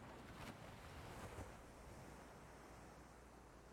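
Ocean waves crash against rocks and lap against the shore steadily with a soft, continuous hiss and low rumble, two brief surges standing out early before settling into a constant gentle roar. Some wind is mixed in, and no voices.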